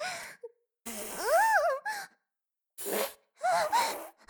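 Several loud, rasping farting noises from someone defecating, in separate bursts, some with a low buzzing rumble and wavering, rising-and-falling pitch, mixed with moaning vocal sounds and short pauses of silence between them.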